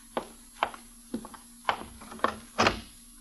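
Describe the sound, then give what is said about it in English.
A door is opened to let a visitor in, with a string of sharp wooden clunks and rattles, about six or seven irregular knocks over three seconds, over a steady low hum and no voices. “Open the door.”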